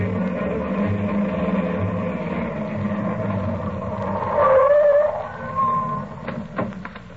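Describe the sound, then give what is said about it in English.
A car engine rumbles steadily, then a brief squeal of brakes as it slows and stops by a hospital's ambulance entrance, followed by a quieter idle and a few sharp clicks. “I'll leave the car right here by the ambulance entrance”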